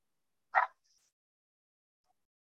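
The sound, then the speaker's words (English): A single sharp dog bark at a visitor who has shown up at a house, brief, followed by near silence with only a faint trailing squeak. “I just had someone show up at my house and my dog doesn't like it, so my apologies.”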